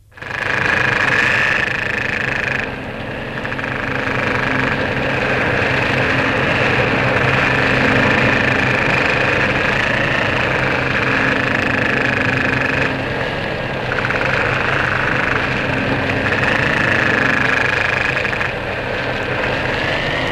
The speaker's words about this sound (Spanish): Oigamos a continuación el pez tambor.